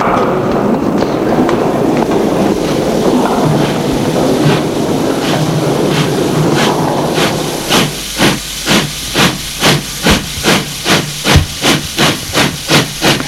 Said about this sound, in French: Le train se met en route.